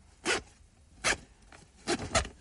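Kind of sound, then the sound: household object, zipper being pulled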